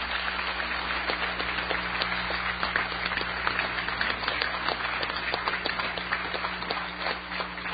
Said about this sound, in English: So I think we owe the hotel a big round of applause, and I think this is the place to be.